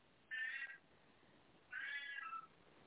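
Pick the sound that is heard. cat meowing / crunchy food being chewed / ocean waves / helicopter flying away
cat meowing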